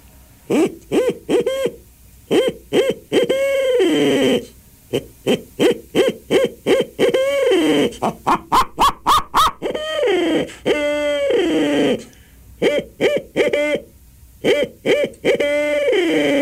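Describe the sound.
A person does a championship-level owl call imitation with a long run of loud hoots, mostly short rhythmic calls, rising into a quick stuttering burst midway before settling back into paired hoots.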